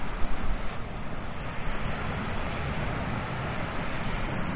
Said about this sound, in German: Eieiei, ich sehe das schon am Pegel. Dass das sehr windig ist. Aber so ist das an der Küste. Und zwar genau an der Küste. Ja, und zwar genau. Wir sind 6 Meter vom Meer entfernt.